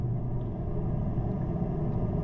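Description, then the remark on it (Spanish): A steady, low machine hum with a deep, continuous rumble underneath, heard faintly from afar as if echoing off tunnel walls. It holds unchanged throughout, with no voices. “Era un lejano zumbido acompañado del retumbar de las paredes del túnel. Sin duda alguna se trataba de una máquina”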